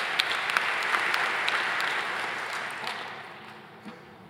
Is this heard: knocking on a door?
no